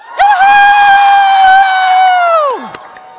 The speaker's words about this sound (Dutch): Dus ik tel nu tot drie en de dochters van Sion gaan dan juichen. 1, 2, 3.